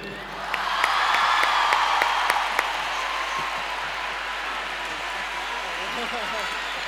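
An audience breaks into sustained applause mixed with cheering and whoops as a woman guest is invited onto the stage, a dense, steady wash of clapping that stays loud for several seconds with a few sharp claps standing out early on.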